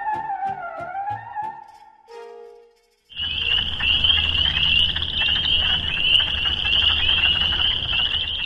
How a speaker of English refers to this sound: Those are the sounds of spring peepers and wood frogs by a roadside on a summer night.